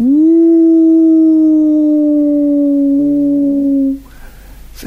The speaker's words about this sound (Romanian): Auzi? Da. Să buciume tulnicele.